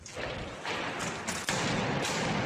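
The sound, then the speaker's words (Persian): Gunfire in the city of Aden, Yemen, where it is heard every day, rings out in a loud, noisy barrage, with several heavy thudding bursts landing at irregular intervals over a continuous wash of rumbling noise. No voices are heard. “در شهر عدن، جایی که معتز مصلح زندگی می کند، هر روز آواز گلوله‌باری به گوش می رسد”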